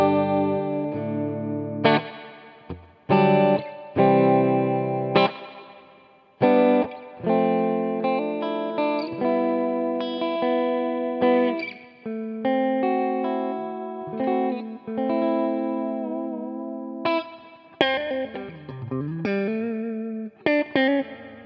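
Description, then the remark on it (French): An electric guitar plays a run of chords and single notes through a warm, slightly driven small tube amp on its clean channel, both pickups engaged, with the built-in reverb at 50%, each phrase trailing off into a long, spacious reverb tail. No one speaks. “Une reverb assez longue qui conclut en beauté donc le test de ce petit tube sandwich.”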